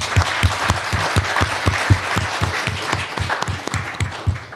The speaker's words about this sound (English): We've got a few minutes for questions, but I'd just like to give a round of applause to our panelists.